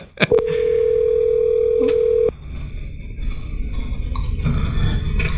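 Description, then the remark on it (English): A phone call rings out with one steady, two-second electronic ringback tone over the line, followed by low background noise as the call goes unanswered. No one speaks. “I wouldn't answer the phone if I was getting a call.”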